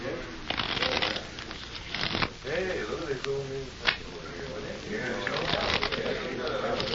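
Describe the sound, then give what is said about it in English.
A deck of playing cards is riffle-shuffled at a card table during a game played with chips, with rapid papery bursts of flicking and snapping, a pause where voices murmur, then another long run of shuffling. “Mind if I shuffle them once? Just for luck?”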